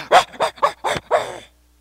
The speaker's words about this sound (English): Everyone likes her, except this dog goes berserk. Because he can sense something about her.